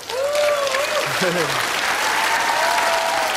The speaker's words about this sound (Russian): Всех защитников Отечества с 23 февраля, других мужиков неприспособленных с 23 февраля, всех аплодисменты!